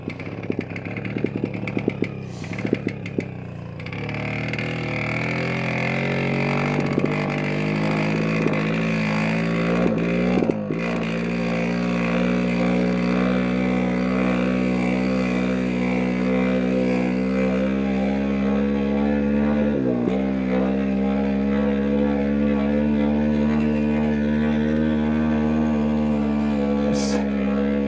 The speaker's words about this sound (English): This is definitely better. Got quite a lot of revs right now. Still so hard to adjust the correct compression and rev rate.